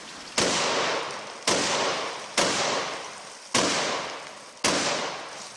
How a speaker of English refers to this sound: What she's doing is she's firing this shotgun into a stream of water, and the water spray is making a rainbow.